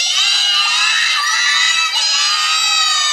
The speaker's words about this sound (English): So when we all yelled that together, was it louder than the first time? Yes. Was it louder than the second time? Yes. So it gets louder and louder the more that participate.